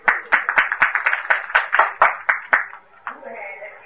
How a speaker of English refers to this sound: Here, loud applause.